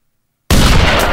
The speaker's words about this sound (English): Hey! Gunfire.